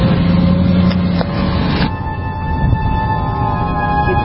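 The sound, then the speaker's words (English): A car drives right behind the people recording, its loud engine and road rumble filling the whole stretch with a steady droning whine, no voices present. “Yeah, we got a car right behind us.”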